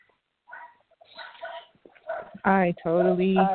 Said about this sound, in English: It's that crazy dog barking. Look, I've been trying to mute all sound as much as possible.